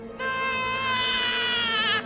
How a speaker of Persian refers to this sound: بعد از شنیدن صدای جیغ پیغام خودتون رو بگذارین.